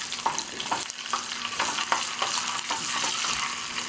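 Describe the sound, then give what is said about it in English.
Steady, bright sizzling of frying with rapid, irregular crackles and pops as curry leaves and sesame seeds splatter in hot oil, sustained throughout with no talking. “So we have splattering going on here.”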